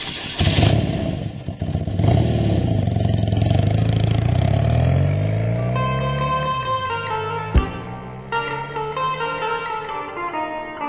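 A motorcycle engine revs loudly, its pitch sweeping upward before settling into a steady rumble, with a sharp clank partway through.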